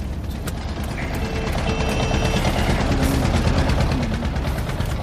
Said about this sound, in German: Hat uns da jetzt gerade ein Traktor überholt.